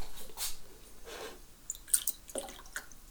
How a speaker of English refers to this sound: Let's go over here and get the bottle of orange. And pour some in.